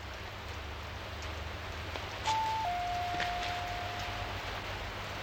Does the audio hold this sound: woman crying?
no